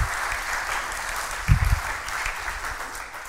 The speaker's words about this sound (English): But let's give a round of applause one more time. Congratulations, you guys.